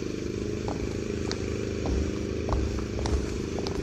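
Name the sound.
lawnmower running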